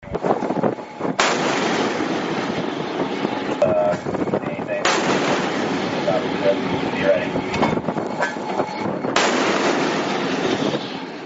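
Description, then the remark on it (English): Three booming shots go off a few seconds apart from a 5-inch MK-45 naval gun on the US Navy destroyer USS Spruance, fired into the engine room of the vessel Tosca. Each is a loud, sharp blast trailing into a long rolling rumble over steady wind and engine noise. “United States Navy destroyer USS Spruance fired several rounds from a 5-inch MK-45 gun into Tosca's engine room.”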